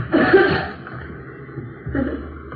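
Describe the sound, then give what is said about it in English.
A man lets out a loud sneeze after pepper is sprinkled on him, followed by quieter raspy breathing and a softer wheezing gasp a moment later. “Now take a big can of pepper, Now sprinkle it on, sir.”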